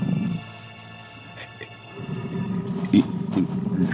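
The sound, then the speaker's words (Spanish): A deep, rumbling tiger roar in the darkness at night, low and throaty, holding steady before swelling louder in a rough surge toward the end. “De pronto, la sangre se paraliza en sus venas al oír un rugido.”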